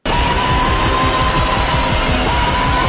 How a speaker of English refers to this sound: That little siren sound in the background, which is from way back from the first Alien trailer, that just, to me, when I hear that, my heart just leaps, you know?